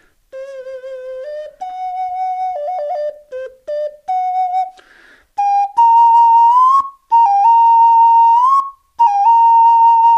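A small, round, palm-sized pendant whistle shaped like a face and worn on a cord plays a slow, simple tune of clear, sustained notes that step up and down with short breaks between phrases, fairly loud, with no talking.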